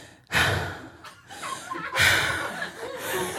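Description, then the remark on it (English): A voice imitates a man's heavy breathing after he pulls away from a kiss: two long, loud, breathy huffs, each a broad noisy rush of air, separated by a brief pause, with a raspy, exaggerated quality. “And while we're making out, he just pulls away, and then he starts breathing heavily like this.”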